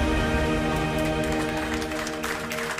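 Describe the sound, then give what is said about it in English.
An audience claps steadily throughout as applause for the Lord, a dense patter of many hands over sustained musical tones, loud and continuous with no voices rising above it. “Let's go ahead and keep that applause going for the Lord.”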